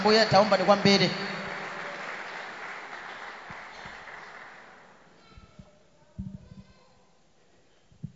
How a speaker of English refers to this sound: I know you are clapping for Jesus. Make it better.